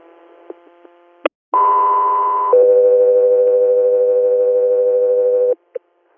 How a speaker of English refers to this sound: Go 3 Air, stand by for tones.